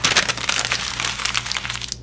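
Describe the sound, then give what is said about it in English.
Paper crinkling and tearing as a package of new clothes is opened, a steady stream of crisp rustles and crackles over about two seconds, with no one speaking. “There's a package to your left. Open it up.”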